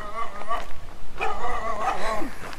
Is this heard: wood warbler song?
no